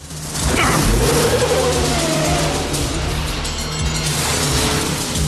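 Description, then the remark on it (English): Two big buses facing each other rev hard and accelerate as Roster and Danko drive at each other in a game of chicken, a loud roar with deep rumbling tones that swell after a brief start and keep going without a break. “Roster accelerates. Danko follows suit.”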